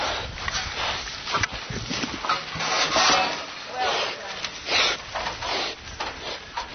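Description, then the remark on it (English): A pig named Piggy Sue, a sow kept in a sow crate, snuffles through grass, with a quick, irregular run of breathy sniffs and soft rustling that rise and fall for several seconds, with no talking. “Then a sniff of grass and her first taste of freedom.”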